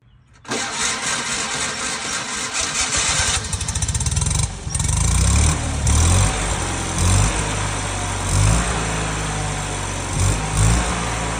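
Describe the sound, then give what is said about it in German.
An old, not modern car's engine cranks for a few seconds before catching, then roars to life and is revved hard several times, loud, with a deep rumbling idle between the revs. “Und ihr hört, der braucht ein bisschen, bis er anspringt.”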